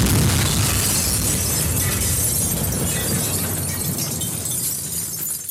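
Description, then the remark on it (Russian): A loud, sustained explosion roars for several seconds, a dense wall of rumbling noise with crackling debris that barely fades, with no voices present. “Это просто дальше, дальше, просто взрыв.”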